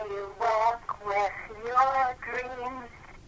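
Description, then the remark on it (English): A woman sings Happy Birthday in a voicemail message to her son, slow and drawn-out over a tinny telephone line, her held notes rising and falling in short phrases; she is on the second verse and about to begin the third. “Everybody knows this song. It's Happy Birthday.”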